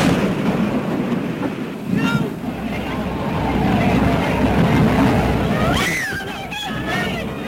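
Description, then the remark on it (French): A dense, rumbling roar of the Hindenburg airship exploding and crashing fills a crackly old Pathé News newsreel recording filmed by cameraman William Deak, with distressed shouts and cries rising briefly through the noise. “les cris, l'explosion, la stupeur dans les salles de cinéma, c'est la sidération”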